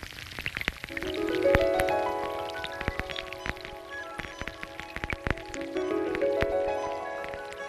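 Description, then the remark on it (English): Rain falling on a creek, heard underwater: a dense, irregular patter of sharp ticks and pops, with a couple of swelling, ringing bubbly tones rising through it, and the sound of sediment being washed away growing stronger. Steady, with no voices. “You can only hear the rain that drops down on the creek, and you hear the sediment that gets stronger and stronger, washed away.”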